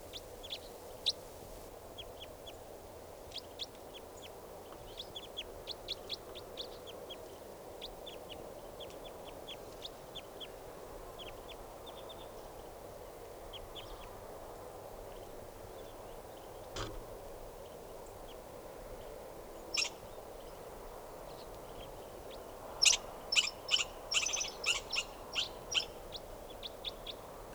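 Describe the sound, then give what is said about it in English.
A flock of Type 4 birds perched in a tree, about to take off, keeps up a steady stream of short, high chirping calls over a soft background hush, then a louder burst of rapid, overlapping calls comes near the end. “Type 4 birds are all calling now, just perched in the tree, they're going to take off.”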